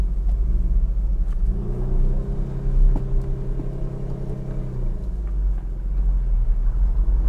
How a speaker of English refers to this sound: Today we are driving, I wonder if I need to reintroduce myself to everybody. We're driving the Dorian Gray today.